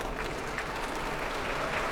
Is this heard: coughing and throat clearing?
no